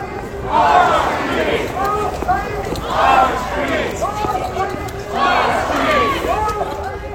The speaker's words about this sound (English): The crowd is participating in nationwide ICE out protests against ongoing immigration enforcement.